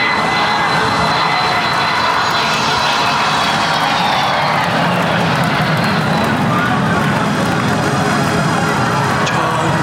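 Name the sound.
airplane engine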